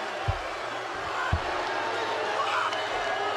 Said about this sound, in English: Everybody starts booing.